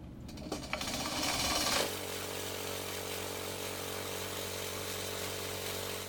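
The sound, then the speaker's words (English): A small lab grinder blending three sorted vials of mosquitoes for West Nile virus testing whirs up to speed with a brief rough, rattling burst, then settles into a steady, loud, high-pitched motorized drone that runs unbroken to the end, with no voices. “This is basically a mosquito blender.”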